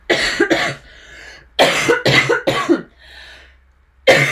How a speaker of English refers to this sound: Sorry, I should have done a cough warning.